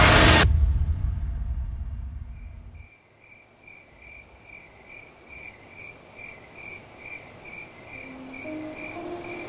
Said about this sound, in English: Choirs of crickets filled the sky like a cascading cacophony.